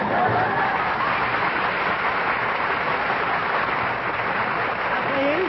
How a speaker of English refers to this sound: Please. Don't applaud.